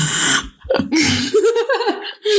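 A voice imitates heavy, snorting breaths ASMR-style, demonstrating the speaker's own snorting breathing: loud, rough nasal bursts mixed with a throaty voiced grunt, then a final harsh exhale.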